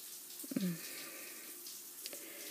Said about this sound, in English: You're standing with both hands resting on the wall, just letting the water run down your back, over your ass.